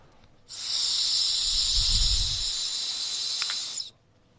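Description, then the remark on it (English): A steady, high hissing rush of breath blown into a breathalyzer for about three and a half seconds, with a low breathy rumble swelling midway, then cutting off abruptly. “Right, see, so yeah, when it says blow, then blow into there.”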